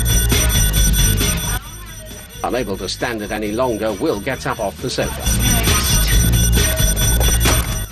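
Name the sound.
doorbell ringing repeatedly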